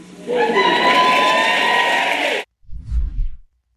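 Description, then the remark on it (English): A crowd at a Joe Biden speech whoops and cheers loudly for about two seconds, a dense roar with shrill voices rising above it, then it cuts off abruptly and a brief low rumble follows. “To wild whoops and cheers, obviously.”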